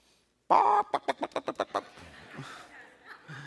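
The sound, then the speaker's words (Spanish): A church audience imitates chicks peeping: a loud vocal burst, then about seven quick, evenly spaced chirpy peeps, trailing into scattered chuckles and crowd murmur. “Águila, yo lo que oigo es pío, pío, pío, pío.”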